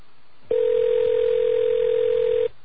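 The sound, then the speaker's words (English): One ring of an outgoing phone call to the caller's own phone: a steady, mid-pitched electronic tone that holds evenly for about two seconds, then cuts off, with no voices. “Yes, I'm calling my own phone.”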